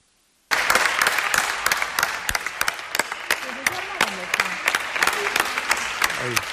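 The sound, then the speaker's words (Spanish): Sustained applause from many people clapping from balconies at 8 o'clock for health workers during the 2020 coronavirus lockdown, dense and steady with sharp individual claps standing out, some faint voices and whistles mixed in, starting abruptly after a brief silence. “Llegó a ser habitual este aplauso sanitario de las 8.”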